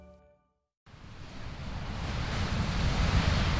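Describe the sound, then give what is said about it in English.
After a brief quiet moment, a loud, steady roar of Pacific Ocean surf and gusting wind rushes in under big, dark gray clouds as a cold front comes in, building slightly and continuing without pause. “The sky over the Pacific Ocean is looking pretty ominous.”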